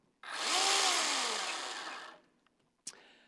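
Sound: chainsaw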